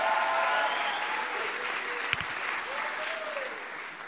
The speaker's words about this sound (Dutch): Geef een sterk applaus om haar te bemoedigen.